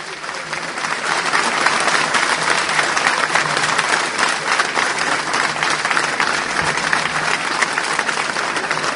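A crowd claps steadily for several seconds, a dense, even wash of many hands with no break in the rhythm and no voices rising above it, a farewell applause for the children of the SODRE National Children's Choir after their morning performance.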